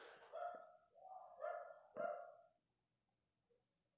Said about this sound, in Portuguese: Eu já achei o título desse episódio. Vai ser O Que o Cachorro Tá Latindo. Mas meio que nem incomodou tanto, eu acho.